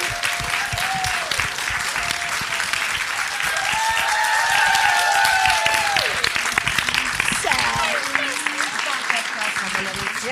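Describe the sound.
Loud, sustained applause and cheering as a singer returning with a song is introduced on a show, dense and steady, with whoops and cheering voices rising above it now and then.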